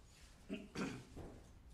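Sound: throat clearing and coughing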